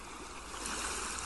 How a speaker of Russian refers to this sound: Шум прибоя задает ритм вашему дыханию.